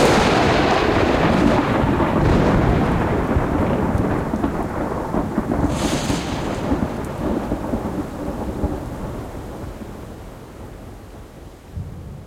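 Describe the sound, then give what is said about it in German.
A heavy thunderclap from a lightning strike opens into a long, deep rolling rumble that gradually fades over about twelve seconds, with a steady hiss of rain underneath and no voices. “Nie dagewesene Forschung, Blitzeinschläge und ihre Auswirkungen auf Panamas Regenwald.”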